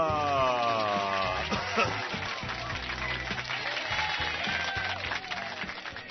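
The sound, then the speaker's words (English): An audience applauds loudly and steadily for several seconds, a dense crackle of clapping over a band playing a bouncy bass line, with a sustained tonal note at the very start. “Thank you for all the applause.”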